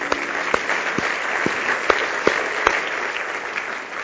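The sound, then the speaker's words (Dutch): A crowd of people clapping steadily, a dense wash of applause with a few sharper claps popping out along the way, continuing without any talking. “Ja, zullen we applaus geven.”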